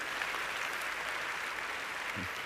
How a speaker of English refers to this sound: Give a prayer, clap offering to the Lord, would you?